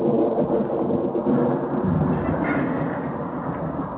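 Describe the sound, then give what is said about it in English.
A deep, rolling rumble of thunder from an approaching storm carries on steadily for the whole stretch, loud, with a dense rain-like wash layered over it and no voices. “Yeah, we gotta get out if we want to beat this storm.”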